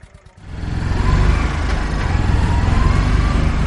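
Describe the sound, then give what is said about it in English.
A small blue tuk tuk, a tiny vehicle like a cross between a car and a motorbike, starts its engine in Johannesburg after a brief quiet moment, then clatters steadily and loudly with a rapid, chugging pulse, its low rumble running under faint traffic. “It gets its name, Tuk Tuk, from the sound its engine makes. It clatters tuk tuk tuk like an oversized lawnmower.”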